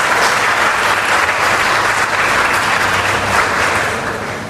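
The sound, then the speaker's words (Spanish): A crowd applauds for Nuestra Señora del Carmen, a dense wash of many hands clapping steadily at full volume that thins and fades slightly toward the end. No one speaks over it. “¿Quién le da un aplauso a Nuestra Señora del Carmen?”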